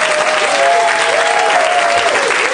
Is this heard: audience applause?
yes